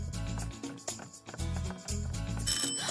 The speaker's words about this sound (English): Ooh, doorbell.